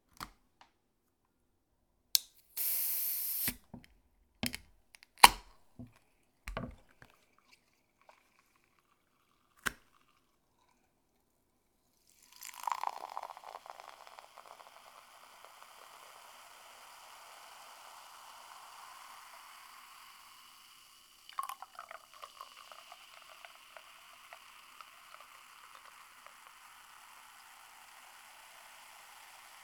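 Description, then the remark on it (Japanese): A few sharp clicks and clinks of a beer being opened, then a long fizzing pour into a glass that pauses briefly and resumes, with crackling foam. “君はビールでよかったよね。はい、グラス持って。”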